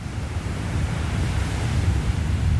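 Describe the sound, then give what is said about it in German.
Gentle surf washes steadily onto a Caribbean beach on the Gulf of Mexico, washing up new algae with each wave, a continuous low rush of breaking waves with some wind buffeting the microphone, and no voices. “Sanfte Wellen schlagen ans Ufer, schwemmen mit jeder Bewegung neue Algen an den Strand.”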